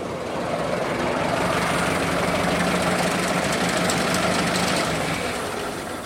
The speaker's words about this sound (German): Guck mal, kommt das nächste Auto.